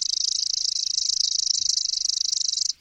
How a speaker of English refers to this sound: I dialed up the pre-programmed call on my iPod, broadcast the song through an external speaker, and bada bing, there it was, a male chipping sparrow, hormones pumping, singing madly from the branch in front of me.